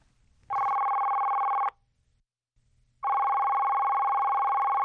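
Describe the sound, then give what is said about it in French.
A telephone rings twice on a recorded phone call placed by the VO Afrique RM Show, each long steady electronic ring lasting over a second with a pause between, clear and loud with no voices present. “On l'a eu au téléphone ce matin.”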